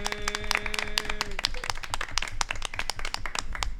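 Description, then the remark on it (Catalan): Dense, steady applause from a crowd at a festa major (town festival), many hands clapping in a fast irregular patter; a sustained tonal hum fades out in the first second and a half while the clapping carries on. “Un aplaudiment gràcies, per ella.”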